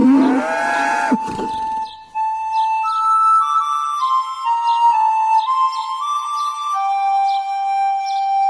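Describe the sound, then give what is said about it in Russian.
A single short cow moo sounds at the start, then gives way to sustained high ringing tones with faint bird-like chirps repeating in the background. “но коров не доила. Потому что коровы были мощные”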